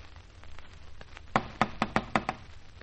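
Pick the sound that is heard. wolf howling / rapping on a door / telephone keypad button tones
rapping on a door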